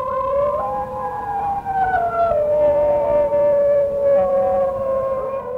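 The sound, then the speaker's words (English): High-pitched howling of singing dogs, sustained and wavering, with overlapping tones that slide up and down like a chorus of yodel-like voices, loud throughout with no talking. “a wolf howl, because a wolf howl is actually very low-pitched, whereas the singing dogs are more high-pitched.”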